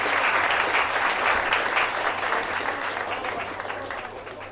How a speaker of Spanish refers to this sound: Así que vamos a daros a las dos un fuerte aplauso porque vais igualaditas.